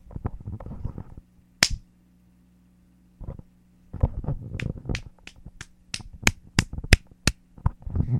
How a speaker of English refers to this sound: Yeah, I just slapped him over the head 3 times.